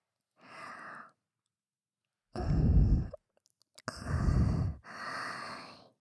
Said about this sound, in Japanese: だからもっと近づきましょうね。熱っぽく湿った吐息だけで耳と頭が甘く染まっていく。